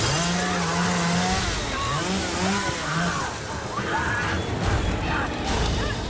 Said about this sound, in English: Leatherface attacks the back windshield with a chainsaw.